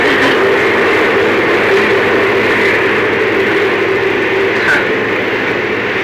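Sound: passing train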